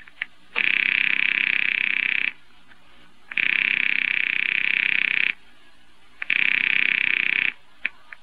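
A telephone line rings three times, each long buzzing ring lasting about two seconds with a steady high pitch and evenly spaced pauses between. No one speaks.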